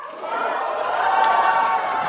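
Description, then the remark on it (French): Subdued, timid applause from an audience at the Nobel Prize in Literature award ceremony, a steady patter of many hands clapping without strong peaks, holding at an even, moderate level for about two seconds with no voices. “En tout cas, à la remise hier, on entend des applaudissements timides.”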